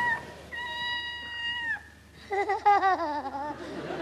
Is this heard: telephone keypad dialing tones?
no